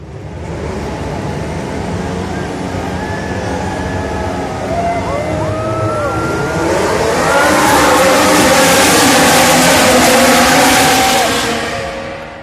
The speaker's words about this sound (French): Alors, mesdames et messieurs, démarrez vos moteurs, c'est un départ!